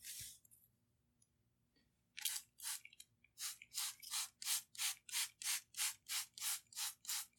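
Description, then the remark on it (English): A spray bottle squirts water onto the right side of a person's hair in a rapid, steady series of about fifteen short hissing bursts, following a couple of seconds of near silence. No one speaks. “So we're going to spray with our water.”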